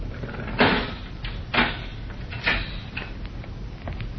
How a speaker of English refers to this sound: As we rejoin Jim now, a uniformed guard is leading a short, thin man along the corridor toward the cell. Stop in front of him. The guard unlocks the heavy steel door.